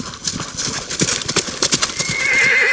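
A horse whinnies with a bright, wavering cry while hooves clop in a quick, uneven rhythm as Tristan leaps onto it and rides out of a grove, the neigh rising loud and shrill near the end.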